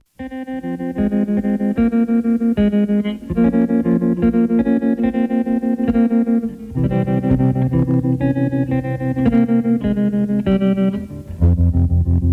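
A pop song's instrumental intro with heavily effected, shimmering guitar chords and a low bass line, playing steadily and loudly for several bars before the voice comes in, with no singing yet.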